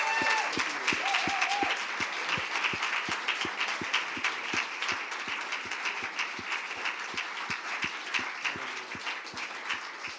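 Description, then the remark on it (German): A large crowd applauds and cheers steadily, with regular rhythmic claps cutting through a dense wash of clapping and raised voices, sustained and fairly loud throughout, clapping and cheering to thank God. “Wollen wir mal klatschen und jubeln und Gott einfach danken, dass da was passiert ist?”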